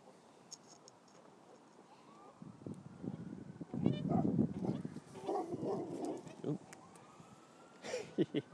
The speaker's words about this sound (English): I think the other dog has just chased the geese off the side.